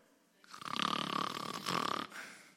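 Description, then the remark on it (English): A single long, rumbling snore from a sleeping man, Jonah, raspy and buzzing, rising and fading over about a second and a half, with no talking. “During all this, what's Jonah doing?”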